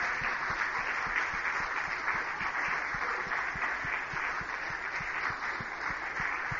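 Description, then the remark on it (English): A crowd gives a clap offering to Jesus, clapping steadily and continuously, a dense wash of many hands with a brisk, even texture that holds at a fairly strong level throughout, with no voices standing out. “Let's give a clap offering to Jesus.”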